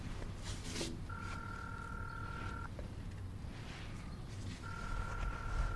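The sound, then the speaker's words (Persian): Mobile phone dialing tones as someone heading toward a door takes out their phone: a long, steady electronic beep that stops, then starts again after a pause, set against a low, rumbling background with no one talking. “رامین میره سمت در. گوشیشو در میاره.”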